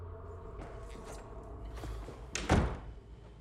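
An apartment door on a base shuts with a single solid thud near the end, preceded by a few faint clicks and shuffles of someone coming in, against a low indoor hum.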